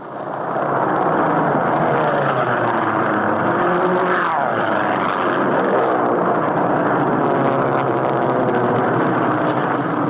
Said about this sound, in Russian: стая изящных японских самолетов на бреющем полете пролетают над американскими мальчишками, играющими в бейсбол